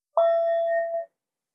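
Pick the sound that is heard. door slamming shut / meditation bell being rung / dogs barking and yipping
meditation bell being rung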